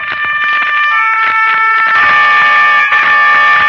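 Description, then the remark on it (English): A motor car horn blares loudly and steadily for several seconds, a harsh, brassy, high-pitched tone with slight pulsing swells in volume and no voices. “Not the distant horn of Roland, protector of France, but the strident horn of the motor car that was to take an American child away from the scenes of his happiest years and set him on his journey home.”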